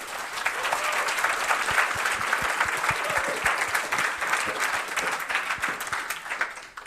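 An audience claps steadily for several seconds after a student team presents their project, a dense, sustained wash of applause at moderate volume that tapers slightly at the end, with no voices over it.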